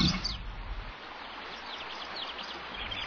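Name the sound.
bird chirping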